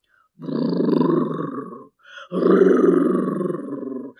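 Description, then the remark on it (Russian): A voice imitates a bear growling at a hut in a told folk tale, in two long, loud, rumbling roars, the second following a short pause. Both are sustained, with no other talk. “Пошел медведь к избушке и зарычал.”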